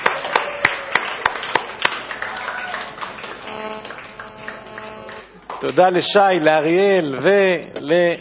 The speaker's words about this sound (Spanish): ¡Aplausos!